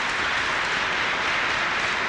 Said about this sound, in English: At several points, you hear raucous applause, clearly from the Nation of Islam members, based on the point that Malcolm X makes.